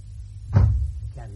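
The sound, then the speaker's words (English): A door in a house slams shut once with a heavy, booming thud, followed by a short rattling echo and a low rumbling background. “In this house, close the door quietly.”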